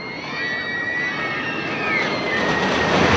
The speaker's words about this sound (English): And you know what? I love a good roller coaster.